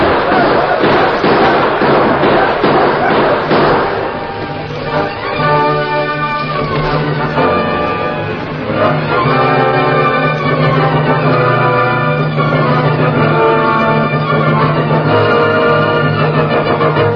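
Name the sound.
gunfire volley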